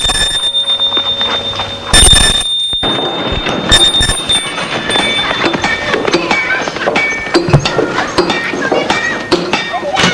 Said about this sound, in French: Elle sonne à une grande porte de bois, verte aussi.